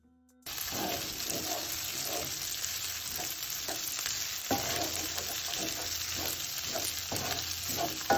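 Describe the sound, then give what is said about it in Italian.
Steady, loud sizzling of spaghetti frying in sauce that is starting to scorch and sticking to the bottom of a pot, with intermittent scraping and stirring clicks throughout; no voices. “Verso la fine del tempo vi accorgerete che la salsa comincerà a bruciacchiare e si sentirà il rumore di spaghetti che si attaccano sul fondo della pentola.”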